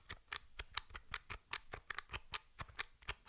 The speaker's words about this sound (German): Die Tastatur ist auch sehr leise. Ich tippe jetzt hier mal bei ausgeschaltetem Gerät und halte das mal relativ nah ans Mikrofon.